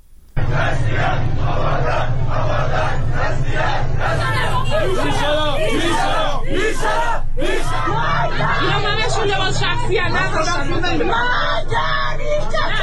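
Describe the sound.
A large street protest crowd in Andimeshk and Behbahan, Iran, demonstrating in solidarity with Abadan, shouts and yells continuously, overlapping voices rising into louder bursts of cries over a steady roar of babble throughout.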